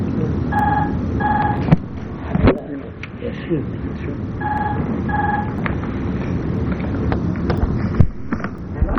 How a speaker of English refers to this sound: Is that our phone ring?